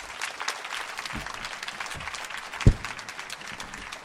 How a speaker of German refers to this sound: Dann würde ich sagen, bereitet ihn einen warmen Applaus, begrüßt sie hier auf der Bühne.